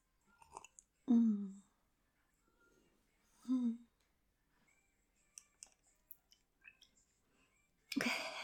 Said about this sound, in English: I'm gonna take a sip of this hot tea.